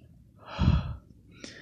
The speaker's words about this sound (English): Mostly involves me whispering and breathing into the mic. I got a very ASMR voice.